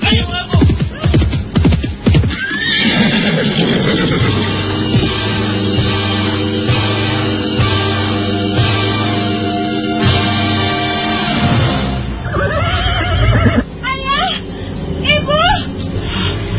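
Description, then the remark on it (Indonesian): A quick burst of pounding hooves of robbers' horses opens, followed by a long, loud, sustained sound effect ending in a couple of sharp neighs. No one speaks. “Pada saat itulah terdengar derap kuda membegal.”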